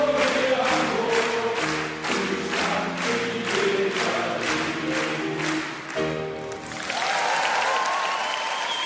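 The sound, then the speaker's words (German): A rhythmic musical passage ends and a large audience breaks into loud, sustained applause for the last couple of seconds, at the Elbphilharmonie in Hamburg, where the Hamburger Liedertafel performed. “der Applaus, den Sie da am Ende noch gehört haben, der stammte aus der Elbphilharmonie, denn auch dort ist die Liedertafel schon aufgetreten.”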